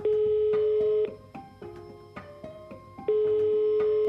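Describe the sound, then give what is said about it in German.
A telephone line with two long, steady ringing tones about two seconds apart, and brief clicks and short beeps of dialing in between, heard alone. “Ich erreiche ihn zunächst telefonisch.”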